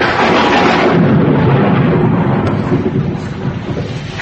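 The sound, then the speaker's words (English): Heavy rain pours down in a steady, loud roar, with deep thunder rumbling underneath throughout. No voices are heard. “And it started to rain.”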